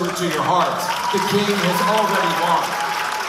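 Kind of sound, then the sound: crowd, audience cheering and applause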